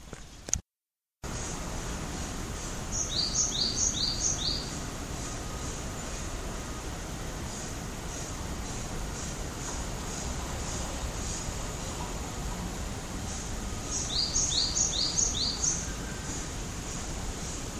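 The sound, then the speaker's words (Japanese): Two short bursts of high, quick bird chirps, a few notes each, about ten seconds apart, over a steady outdoor hiss, heard while walking along a narrow alley leading to the back of an elementary school. “鳥の鳴き声が入ったかな。”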